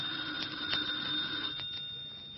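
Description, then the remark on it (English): A telephone bell rings with a bright metallic trill, fairly quiet, its rapid strikes sounding in short bursts with no one speaking. “Well, aren't you going to answer it?”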